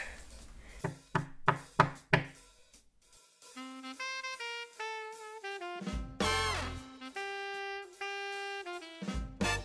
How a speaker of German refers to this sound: Dann klopfen wir mal an und mal gucken, ob er überhaupt da ist.